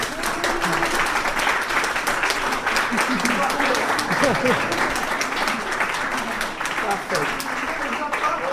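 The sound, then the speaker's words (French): Sustained audience applause at the announcement of the 2016 Prix SADE award, dense and steady clapping from many hands, with faint voices murmuring underneath throughout. “À l'issue des votes de ce jour, le prix SADE 2016 est attribué à une majorité absolue, à un désir d'humain, les Love Dolls au Japon, d'Agnès Giard, qui ne peut pas entendre vos applaudissements, mais qu'il faut quand même applaudir.”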